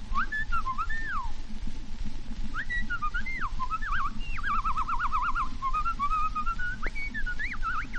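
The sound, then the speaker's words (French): An imitator from the Casino de Paris whistles an imitation of blackbird song: fluting, warbling phrases with rising and falling trills and short pauses, clear over a steady hiss of old-recording noise. “Le chant du merle.”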